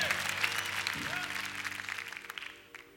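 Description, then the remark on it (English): A crowd in South Africa cheers and claps in a dense, steady wash of noise that slowly fades, leaving scattered individual claps near the end, with a low sustained tone humming underneath. “If you're a South African, even there in London, you can cheer us on here in South Africa.”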